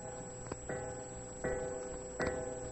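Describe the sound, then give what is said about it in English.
A clock chime strikes four times in slow, even succession, each stroke ringing out and lingering before the next. It is moderately loud, with no talking. “You only struck four.”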